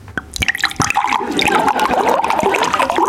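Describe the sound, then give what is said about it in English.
Water pours steadily from a bottle, a bright gurgling splash that starts with a few clinks and drips, then settles into a continuous, rising trickle with no voices. “Pouring it and listening.”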